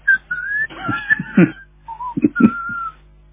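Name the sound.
person whistling a tune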